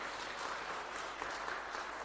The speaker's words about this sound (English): Can we please all clap